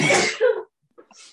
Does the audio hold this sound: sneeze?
yes